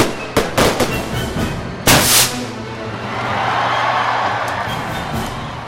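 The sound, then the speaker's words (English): A rapid cluster of sharp fireworks bangs, capped by one bigger, longer blast, then a lingering rumble and faint crowd murmur as the explosions fade into an open outdoor wash. “I think part of it to me, part of what they enjoy, and part of the mystery of fireworks is seeing it appear seemingly out of nowhere.”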